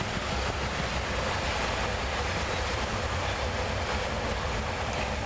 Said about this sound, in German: Behold, U-Bahn.